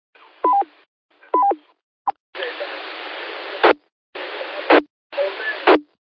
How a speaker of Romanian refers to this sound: Scuză-mă că sună în telefon, te rog.